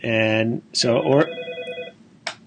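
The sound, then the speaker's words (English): A mobile phone rings with a sustained electronic ringtone, its steady tones fairly loud, briefly interrupted by a burst of voice before the tone resumes and trails off. “I can't make my phone stop ringing.”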